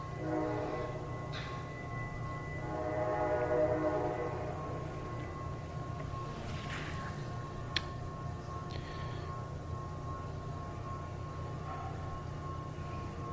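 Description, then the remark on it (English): A train rumbles past with a steady low roar and rattling wheels, the sound holding fairly constant, with a few brief metallic clanks and squeals over it; no one speaks. “So you want to be present to your breathing, present with your walking, present with your eating, present to the sound of the train going by.”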